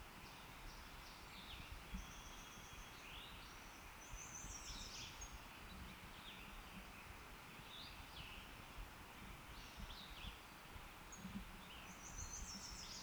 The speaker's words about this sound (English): 2 thin notes were given by a bird close at hand, not the individual giving position note.